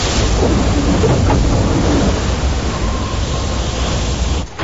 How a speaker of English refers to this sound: Through the lashing rain, Stephen glimpses the blurred landmass of Cape Horn before a wave washes him backwards off his feet.